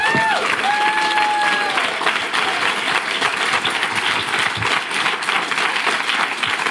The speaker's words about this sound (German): Ja, herzlich willkommen. Vielen Dank für den schönen Applaus.